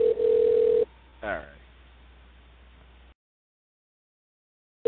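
A single steady telephone ring tone sounds for under a second, loud, like a line ringing through a handset, followed by a brief click and faint line hiss before silence.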